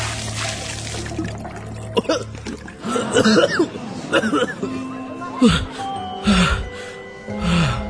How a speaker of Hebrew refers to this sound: תן לי מהר קד מים! תשפוך עליו!